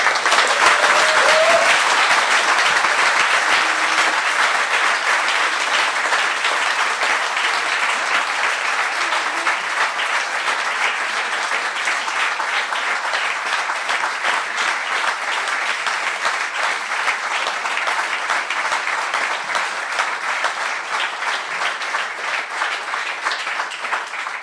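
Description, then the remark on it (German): Sustained audience applause at the close of a Datenspuren 2013 talk, a dense wash of many hands clapping steadily at a loud, even level for the whole stretch, tapering only slightly toward the end with no voices standing out. “Wenn so viel gespendet wird, wie gerade Applaus gegeben wurde, wären wir sehr glücklich.”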